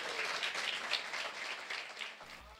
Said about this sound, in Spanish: Amén, amado. Démele un aplauso a Jesús.